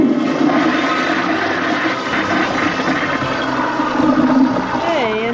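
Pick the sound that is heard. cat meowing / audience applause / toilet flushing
toilet flushing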